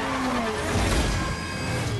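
Racing cars in the film Fast and Furious 6 skid with tyres squealing over a loud, steady roar of engines and road noise, the squeal's pitch sliding downward across roughly two seconds with no voices.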